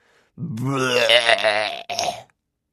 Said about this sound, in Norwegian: Til slutt eksploderte det. Jeg spydde som en fontene, rett inn i de snobbete gjestene.